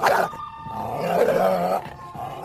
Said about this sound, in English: Most people know that coyotes howl. But did you know they also bark, growl, yip, and whine?